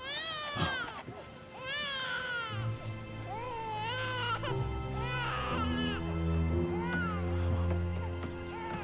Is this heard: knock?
no